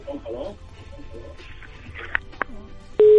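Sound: telephone busy tone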